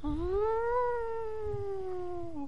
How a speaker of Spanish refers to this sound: Es la sirena que indica que todo está bien. Ahora, si esa sirena suena, es porque hay un incendio declarado o algún mega peligro ocurrente.